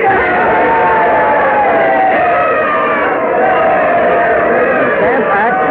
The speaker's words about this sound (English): The crowd cheering wildly there while they're carrying George Mercer on their shoulders